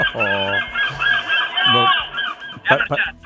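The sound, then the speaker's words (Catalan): A seagull calls out in a series of loud, harsh squawks and nasal, honking cries, the strained wails running together before two sharp bursts at the end. “Però això és una gavina, no?”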